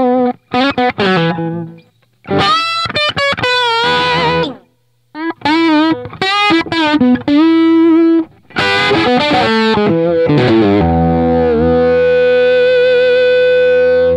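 An electric guitar played through an amp with no added effects, its tone slightly gritty, picking short phrases and chords separated by brief pauses, then ringing out on a long sustained note.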